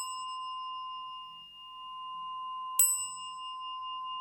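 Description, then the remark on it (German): A rod bell, rung to begin a meditation, hums with a long, sustained metallic ring, then is struck again, the fresh hit blooming into a bright, resonant tone that lingers. No one speaks. “Und dann nimmt man die Stabglocke und läutet die Meditation ein.”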